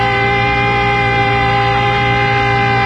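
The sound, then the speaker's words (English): An air raid warning siren, the alert signal from London in 1941, blares in one sustained, steady tone, loud and rich with harmonics, holding its pitch for the full few seconds with no voices over it. “You know, that sounds like that crank thing that we had one time.”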